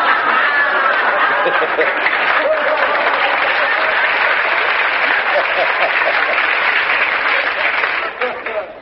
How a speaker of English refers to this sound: I don't know what you're applauding for.